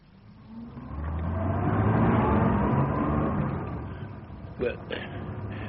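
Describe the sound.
A patrol car's engine drones as it drives an injured sergeant to hospital, swelling over the first two seconds into a steady low rumble, then easing slightly, with brief murmured voices breaking in at the end.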